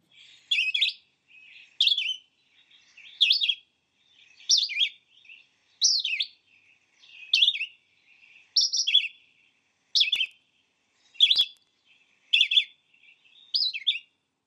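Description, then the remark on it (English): A red-eyed vireo sings a typical song, from the Sibley Birds app for iPhone: a steady series of short, high, slurred phrases, about eleven of them, each separated by a brief pause and varying slightly in shape, with no other sounds. “Over 12,000 red-eyed vireo song types have been recorded. Here is an example of a typical song from the Sibley Birds app for iPhone.”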